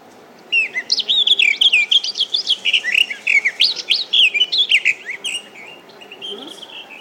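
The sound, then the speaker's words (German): A garden warbler's song played from an audio pen pressed on a bird book page, in a long, rapid stream of warbling, bubbling notes, fairly loud, with a slight electronic quality as if from a small speaker, no talking over it. “Die Gartengrasmücke.”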